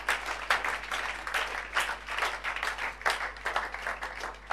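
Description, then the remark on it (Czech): A crowd applauds steadily, a dense wash of many hands clapping together at moderate volume, sustained without a break and with no voices heard, welcoming a guest, a pastor of the Slovo života church from Brno, invited up onto the stage. “Pojďme mu zatleskat a pozvat ho nahoru.”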